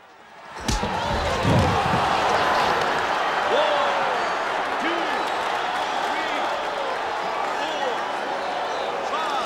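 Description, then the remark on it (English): A sudden sharp impact as a Russian boxer is knocked out in a boxing match in Las Vegas, followed at once by a large crowd erupting into a loud, sustained wave of gasps and excited exclamations that carries on steadily to the end. “They gasp as the Russian is knocked out.”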